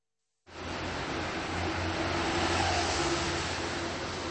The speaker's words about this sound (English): The rush of afternoon traffic along the street that's known as Rohanské nábřeží, or Rohanský Island Embankment. Only this isn't really an embankment. There's no water here and no island.